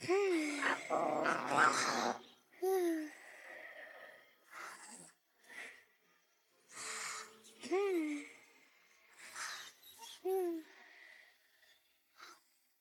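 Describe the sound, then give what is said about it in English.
A tiger growls in several rumbling bursts: a long snarl at the start, then shorter growls spaced apart, with breathy huffs and snorts between them. “Oh, look, a tiger.”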